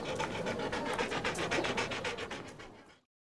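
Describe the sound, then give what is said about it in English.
Betsy, a pet dog wearing sunglasses, pants quickly and steadily, a rapid run of breathy huffs lasting about three seconds before stopping abruptly. No one speaks. “Betsy's a dog.”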